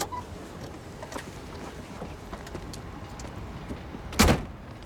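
Quiet rustling and shuffling inside a Trabant car parked outside the railway station in Odessa as two people get out, with small clicks and movement, ending in a solid car door thud near the end. No one speaks.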